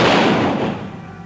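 A loud volley of rifle shots fired together, like a firing squad, striking at once as one sharp crack and then rolling off into a long, fading rumble. No voices are heard.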